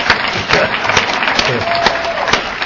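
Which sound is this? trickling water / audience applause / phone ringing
audience applause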